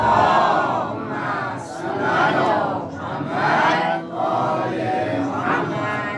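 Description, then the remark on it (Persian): A large crowd chants a Muhammadi salawat (blessing on Muhammad and his family) together in loud unison, voices rising and falling in several sustained waves of massed, rhythmic chanting without pause. “برای اینکه خانوما گوش کنن انشاءالله یاد بگیرن، یه صلوات محمدی خط کنیم.”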